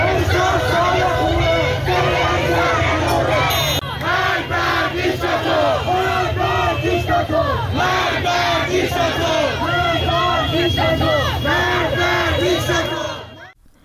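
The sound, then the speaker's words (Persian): A large crowd of protesters in Tehran, Iran, fills the air with loud, continuous shouting and rhythmic chanting, many voices overlapping in repeated bursts over a steady low rumble of the street. “میتونیم که صدای مردم تهران رو بشنویم.”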